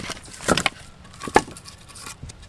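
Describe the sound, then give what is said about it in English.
A forest technician shuffles through a huge stack of firewood at a vacation home in Rumney, New Hampshire: a few sharp, hollow knocks of logs striking each other over a steady dry scraping and rustling, with no voices. “Forest technician Mike Simmons shuffles through a huge stack of firewood at a vacation home in Rumney, New Hampshire.”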